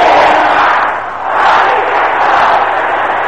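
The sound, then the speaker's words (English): A large audience shouts a prayer together loudly in a dense, roaring wall of voices that sustains for a few seconds, dipping briefly before swelling back to full volume. “Can you shout this loud and clear?”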